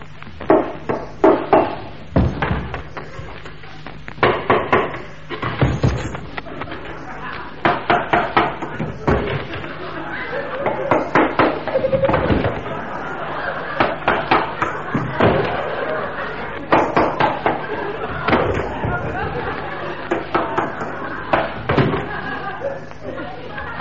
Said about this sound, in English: Finally, great wooden door jams being knocked away.